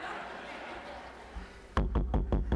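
After a stretch of soft, hissy background murmur, five loud, rapid knocks land in an even, insistent rhythm, heavy like a fist pounding on a house door.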